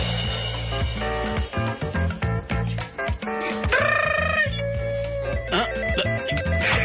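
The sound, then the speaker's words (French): A mobile phone rings loudly with a rooster-crow ringtone: a busy, repeating electronic melody over a steady thumping beat, with a bright, strained crowing call rising out of it midway. “C'est mon parloir portable qu'on m'a offert à Noël.”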